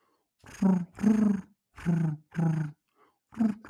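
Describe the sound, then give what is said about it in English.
A person imitates a pigeon with five low, throaty cooing bursts in a steady rhythm, the last one coming after a short pause. “I can do a good pigeon.”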